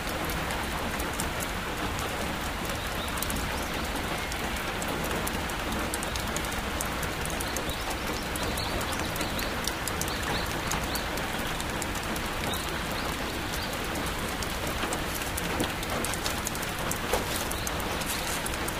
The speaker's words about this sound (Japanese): 突然の雨に見舞われたあなたは、木造の古い建物の下で雨宿りをしていました。